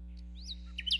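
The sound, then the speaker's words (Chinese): Small birds chirp in a few quick, high, sweeping tweets that cluster near the end, fairly soft, over a steady low droning hum. “三只小鸟，三只小鸟，叽叽叽，喳喳喳，飞得高。”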